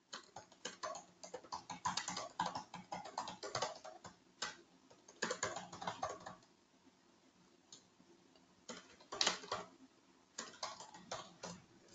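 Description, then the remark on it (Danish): Rapid clicking of keys as someone types a reply to a personal message on a keyboard, coming in bursts with short pauses between, moderately quiet, with no one speaking. “Skal lige skrive besvare en personlig besked her fra ikke andre, men her er en af dem, det er der med her.”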